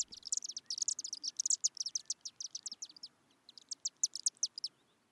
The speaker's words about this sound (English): Let's listen to the chipping of the chimney swifts.